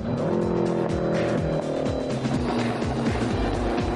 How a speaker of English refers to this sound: That front engine car is light at the back, and he has to take care on the sharp bends. You can really hear his gear changes so much quicker. He's really got that down.